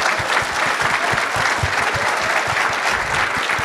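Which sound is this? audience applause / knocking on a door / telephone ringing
audience applause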